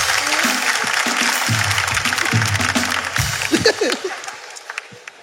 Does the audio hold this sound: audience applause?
yes